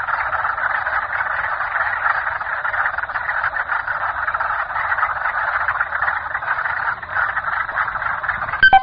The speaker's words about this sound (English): Frogs were croaking all around. As we headed for the cache, we captured some frog sound